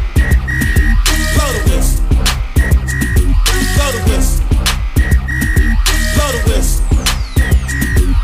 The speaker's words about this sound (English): Blow the whistle.